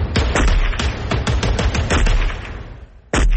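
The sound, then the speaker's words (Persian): A rapid burst of many gunshots cracks out in quick, irregular succession, loud, thinning toward the end before one more sharp shot rings out after a brief pause: a driver who got out of his stopped vehicle firing a weapon at police officers. “مرد راننده بعد از توقف خودرو پیاده شد و با سلاح همراهش شروع کرد به تیراندازی به سوی نیروهای پلیس.”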